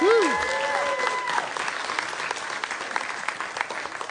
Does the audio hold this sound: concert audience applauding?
yes